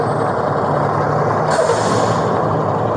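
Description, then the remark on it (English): A loud truck engine rumbles, with a sharp hiss of air brakes bursting out midway through the steady roar. “That truck's going to be really loud.”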